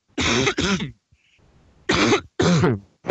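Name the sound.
cough and throat clearing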